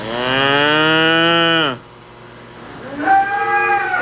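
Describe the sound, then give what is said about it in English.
A Holstein dairy cow in a dairy barn lets out a long, loud moo that drops in pitch at the end, then after a brief pause begins a second, quieter moo. “So this is our Holstein. It's Racer, and I think that's Sunshine.”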